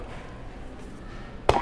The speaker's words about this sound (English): Go ahead and hit another buzzer.